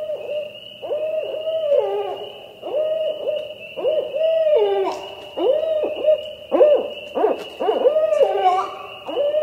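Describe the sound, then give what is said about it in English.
Barred owls hoot and caterwaul in an excited, overlapping series of loud calls with rising and falling wails, continuing without pause over a steady high insect drone. “That's a barred owl, B-A-R-R-E-D, barred.”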